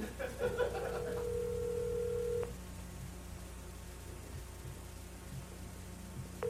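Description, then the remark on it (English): A quick burst of dialing tones gives way to a steady ringback tone over a hissy phone line, which falls silent for several seconds and then starts ringing again at the end. The call is placed on The Ralph Emery Show to Betty Davis. “Should be ringing any second here now.”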